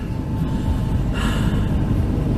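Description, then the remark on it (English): A helicopter taking off makes a loud, steady mechanical roar with heavy low rumble, sustained throughout, with no voices present. “So here comes another helicopter taking off.”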